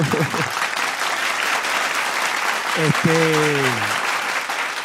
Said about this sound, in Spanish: Un aplauso para eso.